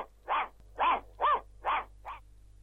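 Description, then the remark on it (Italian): A dog, Bianchino, barks five times in a steady, evenly spaced rhythm, each bark short and fairly loud, over a faint low hum, with no one speaking. “via a precipizio su per la strada maestra, con Bianchino dietro, che abbaiava a più non posso.”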